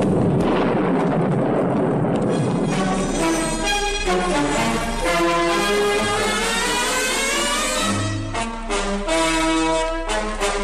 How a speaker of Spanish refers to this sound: Casi mira, se habían oído ya dos truenos enormes, oídos. Como cuando llueve, ¿verdad? Y se oyen aquellos grandes relampagueos.